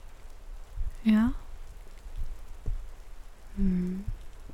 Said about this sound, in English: Just lay here and listen to the rain with me.